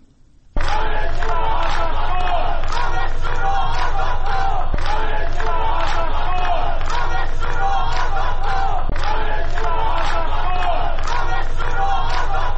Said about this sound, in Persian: شعاری رو میشنویم که همین ساعتی پیش منتشر شد.